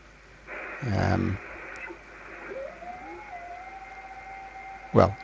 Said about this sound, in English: So if I just go to, I'll try and get a bit of Morse code, for example, if we can.